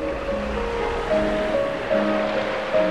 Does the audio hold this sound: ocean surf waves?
yes